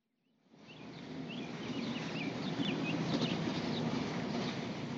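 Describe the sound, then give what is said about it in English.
Scattered birds chirp over a steady low outdoor rumble that fades in at the start, at the fairly quiet construction site of a new aquatic center in Rogers; the calls are small, and no one speaks. “Earlier this week, the site of the Rogers Aquatic Center was fairly quiet, save for a few whirling power tools and chirping birds.”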